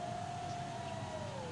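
A siren from Trump's motorcade after his landing at an airport wails in one long, steady tone that slowly sinks in pitch, rising clearly above a constant broad rumble of background noise. No one speaks.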